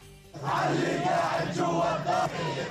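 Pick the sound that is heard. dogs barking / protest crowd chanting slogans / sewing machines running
protest crowd chanting slogans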